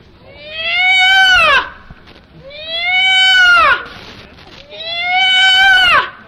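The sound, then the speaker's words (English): A peafowl gives three loud, evenly spaced wailing calls, each about a second and a half long, holding a rich nasal tone before sliding down in pitch at the end. “Peafowl, you see them on TV, color TV, that beautiful.”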